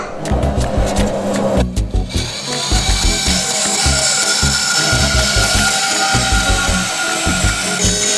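A saw cuts through wood for an instrument part, a loud, continuous grinding rasp with steady rhythmic thumps underneath, running for several seconds without pause.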